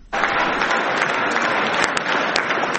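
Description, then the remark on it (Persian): Supporters of Friedrich Merz, Germany's future chancellor, clap steadily after the announcement of the recent German election results, a dense, continuous wash of applause that starts abruptly and stays loud throughout, with occasional sharper individual claps standing out. “فردریش مرتز صدر اعظم آینده آلمان در میان تشویق هواداران خود بعد از اعلام نتیجه انتخابات اخیر آلمان.”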